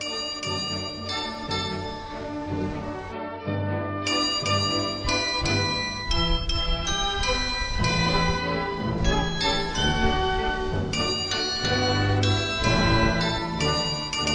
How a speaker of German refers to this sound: Jetzt haben wir vorhin ja auch schon ganz kurz das Glockenspiel gehört, das zum Beispiel mittags um 12 auf dem Hildesheimer Marktplatz gespielt wird. Wir hören da noch mal ganz kurz rein.